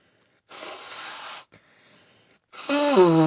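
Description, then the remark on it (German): A steady, rain-like rushing hiss from two toy elephants rubbed together lasts about a second, followed by a brief pause and then a person's voice with a sliding pitch. “Also wenn man einen Elefanten, zwei Elefanten aneinander reibt, klingt das wie Regen.”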